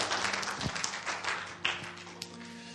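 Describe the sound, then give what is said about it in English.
An audience at a church service applauds steadily for four young ladies who raised their hands for salvation, a dense wash of many hands clapping at once with a few sharper claps standing out, while a low sustained tone hums faintly underneath. “We should be cheering.”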